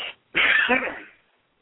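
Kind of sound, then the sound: human body sound, sneeze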